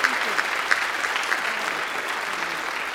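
A crowd at EMU applauds steadily for three people who shared their story, many hands clapping in a dense, even patter with a few sharper claps standing out at the start, holding at a moderate level throughout.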